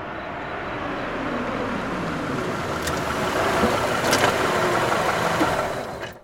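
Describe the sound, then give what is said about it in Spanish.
A car engine idles with a steady, continuous rumble for several seconds, then is switched off abruptly at the very end. No one speaks. “Richard apagó el auto.”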